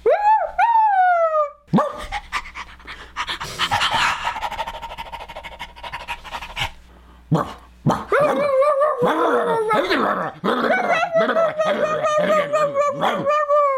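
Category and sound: vocal imitation, person imitating dogs barking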